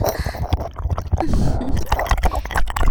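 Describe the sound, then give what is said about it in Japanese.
Wet, squishy sounds of a tongue rapidly licking all over an ear, with smacking saliva clicks and soft hot breathy puffs, repeating in a quick irregular rhythm for several seconds, with no talking. “高速で舌が耳の至るところを這いずり回って、蛇のようにうねりながら熱い吐息と唾液で耳を塗りつぶしているのです。”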